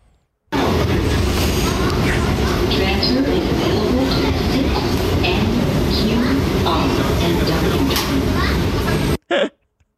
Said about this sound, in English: Just another day on the J train.